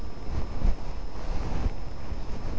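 Steady ocean surf rushes and washes continuously, a broad hissing roar with gentle swells, mixed with a windy, blustery rumble and no voices.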